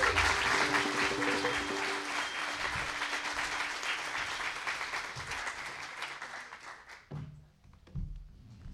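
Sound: audience applause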